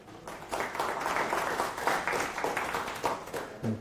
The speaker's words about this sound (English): little round of applause and we get started.